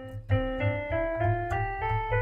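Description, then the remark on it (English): A C major scale played on a keyboard, one note after another in a steady ascending run of sustained, clear tones, with no voices over it. “A C major scale.”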